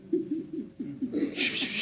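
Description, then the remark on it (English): A voice imitates doves cooing with a quick run of soft, low, warbling coos, about eight pulses in steady rhythm, joined near the end by a rising breathy hiss of crowd noise. “I call it the cooing of the doves.”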